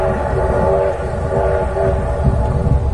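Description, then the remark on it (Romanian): A train heading to the Romanian front in Transylvania rolls steadily along the rails with a constant low rumble and rhythmic rattling, with a sustained tonal hum running throughout. “În tren. În drum spre frontul românesc din Transilvania.”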